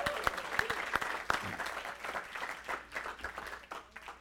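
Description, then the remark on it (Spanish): An audience applauds the speaker's wife steadily, dense overlapping claps forming a bright, crackling wash with a few sharper individual claps standing out, sustained throughout without any talking. “Un fuerte aplauso entonces a mi esposa.”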